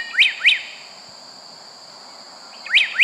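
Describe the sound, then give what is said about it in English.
Song of the slate-colored solitaire, a bird of the Mexican cloud forest: pairs of clear, bright, ringing whistled notes with a steady insect hum underneath, a short pause, then the phrase returns. Fairly loud, with no talking. “Chapman's choice for the most beautiful bird song of all comes from the Mexican cloud forest, the slate-colored solitaire”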